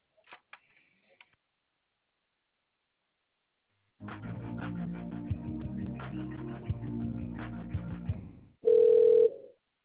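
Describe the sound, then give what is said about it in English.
A telephone line ringing tone on a relay call: one short, loud, steady electronic burst at the end, after a few faint clicks and a long stretch of dense, murky tonal sound. “And the line is ringing.”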